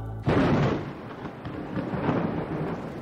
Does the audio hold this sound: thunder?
yes